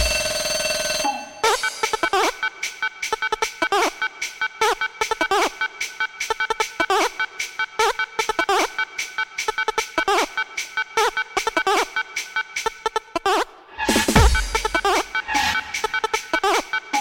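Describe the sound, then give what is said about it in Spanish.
A WhatsApp phone ringtone chimes over and over in a quick, bright, steady pattern, loud, with a short break and a low thump near the end before it resumes. “WhatsApp.”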